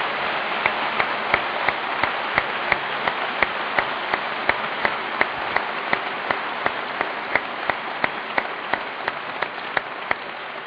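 audience applause

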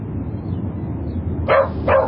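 dog barking

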